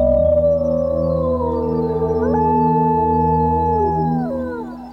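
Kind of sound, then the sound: animal, wolves howling in chorus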